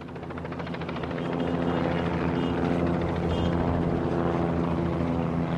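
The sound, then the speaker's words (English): A steady, loud drone of helicopters and planes circling over the Rangers ballpark in Arlington as fans stream out of Cowboys Stadium, with a low throbbing hum that swells slightly and holds constant throughout, no voices. “Fans streaming out of Cowboys Stadium are greeted by helicopters and planes circling the Rangers ballpark in Arlington, just down the street.”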